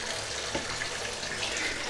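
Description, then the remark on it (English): Cold tap water runs into a bathtub in a steady, fairly loud hiss, splashing continuously over a person's feet with no pauses and no voices. “Cold water on my feet.”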